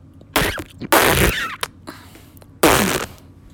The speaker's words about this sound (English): Her farts usually ask a question. Yeah. Where they go, you know, down and up.